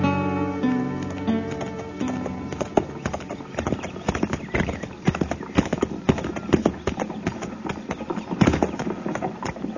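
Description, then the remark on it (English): Horse hooves clop steadily and irregularly on hard ground at a crowded hitch rack as a horse is moved over, with a brief whinny near the start and faint voices murmuring underneath. “Hey, Tipple, move that horse yarn over so I can get mine in there. This hitch rack's pretty crowded, Ferris.”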